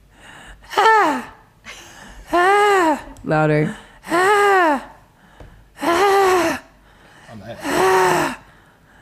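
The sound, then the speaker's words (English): A person performs heavy, gasping breaths on request, about six loud voiced bursts, each swooping up and down in pitch, spaced by short pauses, with a single brief spoken word in between. “can you just breathe and scream?”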